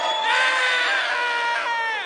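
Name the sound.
crowd applause and cheering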